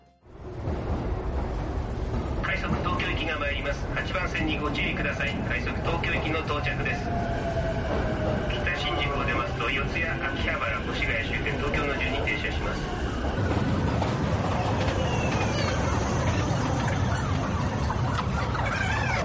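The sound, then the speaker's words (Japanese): A train announcement within a Japanese hip-hop song: a busy train station scene with a muffled public-address announcement over steady rumbling rail noise and a whining tone, continuous and fairly loud throughout. “電車のアナウンスなどが入っていて、まさに街の雰囲気を感じます。”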